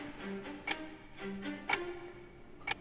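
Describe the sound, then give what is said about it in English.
A chess game clock, just started at a chess match in Reykjavik, ticks steadily, three crisp clicks spaced about a second apart, fairly quiet against a faint low hum with no one speaking. “The clock has now been started.”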